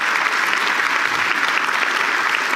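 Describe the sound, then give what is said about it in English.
A crowd claps steadily throughout, a dense, even wash of many hands with no pauses and no voices standing out. “Yes, give her a round of applause.”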